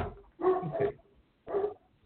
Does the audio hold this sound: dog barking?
yes